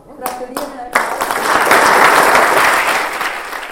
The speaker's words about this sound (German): Mit Applaus hat der Kantonsrat die neue Regierungsräte im Amt begrüßt und die alte Regierungsräte mit einer Standing Ovation verabschiedet.